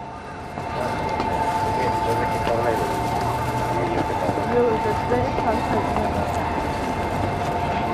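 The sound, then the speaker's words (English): Busy ambience at the train station in Takasaki: a steady wash of crowd murmur and voices with a faint sustained tonal hum, continuous and moderately loud throughout. “I have to say I'm not surprised, but I am disappointed at how little deviant behavior occurs at the train station in Takasaki.”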